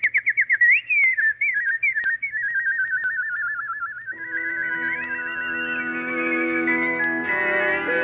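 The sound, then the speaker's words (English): A nightingale's song, rendered as a bright warbling whistle with quick trills and wavering runs, continuous, joined midway by soft sustained instrumental tones underneath. “Sing, little nightingale. Sing a song of love and thanksgiving, for the Emperor has at last found the kingdom of happiness.”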